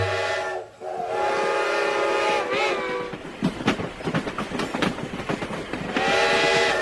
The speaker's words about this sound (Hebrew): מה קורה פה? סבתא נדהמת. לפני רגע עמדה פה רכבת שלמה, ופתאום הרכבת כולה נעלמה.